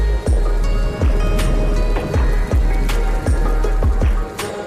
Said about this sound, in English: Soft rain sound effect.